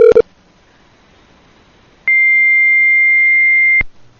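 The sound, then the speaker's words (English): A fax machine's answer tone comes over a phone line during a test phone call made through Gmail: a brief click, a pause of faint line hiss, then a loud, steady high-pitched whine holding for nearly two seconds before cutting off. “Yeah, fax machine.”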